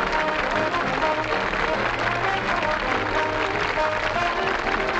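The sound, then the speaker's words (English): A nightclub audience applauds steadily after a show as the performer takes a bow, a dense wash of many hands clapping at an even, sustained level for several seconds, with a faint murmur of voices beneath and no pauses. “Duran smiles and claps.”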